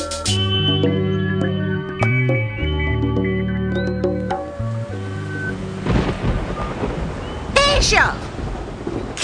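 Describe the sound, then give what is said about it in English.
Sustained tones play for several seconds, then a loud thunderstorm breaks in with a broad rumble of thunder and rushing rain filling the last few seconds. “And lightning, and get off that telephone.”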